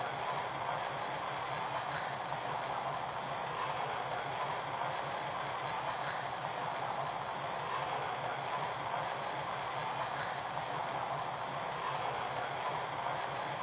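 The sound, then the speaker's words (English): A passenger train, number 188 bound for New York, idles on track 1 at a station platform, giving off a steady, unbroken mechanical roar and hiss that holds at the same level throughout, with no voices or distinct events. “Now departing for New York on track 1, train number 188, the Congressional.”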